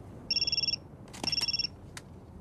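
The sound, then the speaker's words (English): A cell phone rings with two short bursts of a rapid, warbling electronic trill, separated by a brief pause, as a call comes in for Peoples in a scene from Shaft, fairly loud over a quiet background with a few faint clicks. “As Peoples takes the call, Shaft passes his cell phone to Rasan.”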